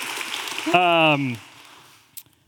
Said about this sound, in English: Yes. Yes. Thank you. Round of applause.